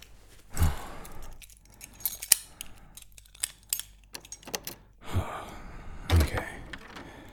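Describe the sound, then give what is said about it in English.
Keys jingle and clink in scattered bursts as someone rummages to find their keys, with a few heavy breaths or sighs breaking in between the metallic rattles. “Hold on. I gotta find my keys.”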